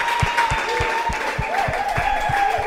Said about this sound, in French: Bonne réponse donnée par les coachs. On peut applaudir pour le coach du lycée Picot.